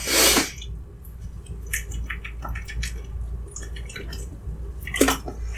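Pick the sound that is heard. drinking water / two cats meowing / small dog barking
drinking water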